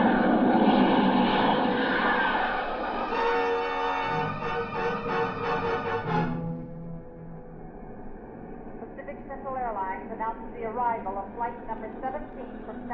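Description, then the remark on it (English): A steady, loud roar of airliner jet engines with a high whine as the plane taxis up to the ramp, following another jet, runs for several seconds, then drops to a lower rumble as a voice speaks over the engine noise. “You taxied up to the ramp, Mel. I've had it. Just follow that last jet.”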